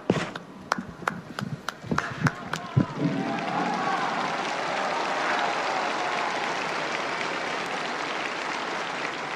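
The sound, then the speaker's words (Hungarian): A large crowd of pilgrims breaks into applause to thank Pope Francis for his blessing: a few scattered, sharp claps at first, then dense, steady clapping from many hands that holds at an even level to the end. “Szokásukhoz híven a mai napon is a zarándokok tapssal köszönik meg Ferenc pápa áldását, az ő tanítását.”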